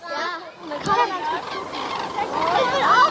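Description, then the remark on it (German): A flock of cranes calls while flying overhead over a wild area in Bochum-Langendreher in the afternoon, their rolling, trumpeting cries overlapping continuously at moderate volume in the open air. “Ja, Kraniche. Ja. Die flogen dann noch eine ganze Weile über unseren Köpfen.”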